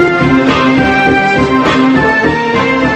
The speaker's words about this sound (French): Donc ça, c'est les Dents de la Mer. Hein. Voilà la mélodie. Et voilà la mélodie.